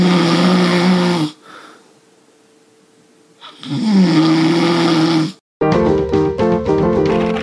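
A person snores loudly, two long rattling snores separated by a quiet breath, before the sound cuts abruptly to music.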